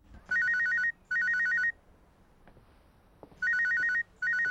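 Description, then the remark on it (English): A telephone rings in a double-ring pattern, two quick electronic trills, a pause, then two more, loud with no one speaking. “She walks over to the phone.”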